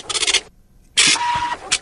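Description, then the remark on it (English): A voice imitates a dot matrix printer with raspy, buzzing bursts: a rapid stuttering chatter, a short pause, then a longer grinding sweep with a steady whine and a final quick burst. “There's also the sound of a dot matrix printer.”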